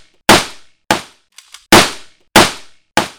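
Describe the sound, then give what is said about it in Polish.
Five loud gunshots fired at an uneven pace on an indoor shooting range, each cracking sharply and fading quickly with little echo; a pair of faint mechanical clicks falls between the second and third shots. “ale tak żeśmy zaprojektowali ten obiekt, te osie, żeby ten dźwięk stąd się nie wydobywał, ale też oddany strzał, żeby nie odbijał się od wszelakich ścian, czy sufitu, czy podłogi, tylko na bieżąco był kompensowany i wyciszany.”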